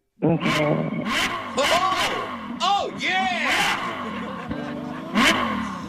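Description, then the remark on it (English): A voice loudly imitates a motorcycle engine revving, with repeated rising and falling vroom sounds, mixed with short excited exclamations from another person. “I mean, yeah, it sounds like a motorcycle.”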